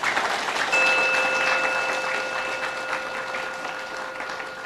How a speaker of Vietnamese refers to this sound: Và nếu được như thế đó thì thì mong quý vị hãy cho một tràng pháo tay thật là lớn nè.